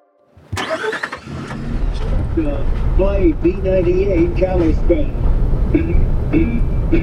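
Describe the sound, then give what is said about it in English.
A truck engine starts up after a brief silence, then rumbles steadily while driving, with muffled voices talking over the low drone. “Something I've noticed about my job reporting on wilderness is that I spend a lot of time driving around in trucks with guys.”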